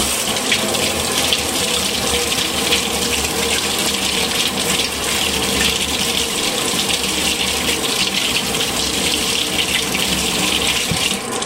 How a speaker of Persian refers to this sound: پوست پیازم رو کندم. حالا میشورم، هم دستان میشورم هم پیازم.